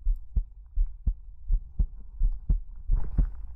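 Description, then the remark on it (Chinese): A steady heartbeat thumps low and muffled, roughly two beats per second in regular lub-dub pairs, moderately loud with no voices present. “仔细聆听心跳的复苏之音，这是我对你的祝福。”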